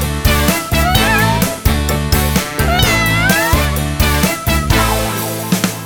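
Several drawn-out, rising and falling meows sound over loud, steady backing music with a driving beat, repeating across the few seconds rather than standing alone.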